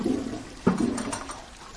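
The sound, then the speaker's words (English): A toilet flushes and overflows, its water spilling out of the bowl, with a loud, sustained rush of water that swells and churns, with no voices present. “What should I do if the water in the toilet isn't in the toilet anymore?”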